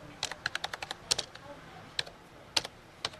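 Rapid typing on a computer keyboard, a quick burst of crisp clicks followed by a few scattered keystrokes, heard up close over a quiet background.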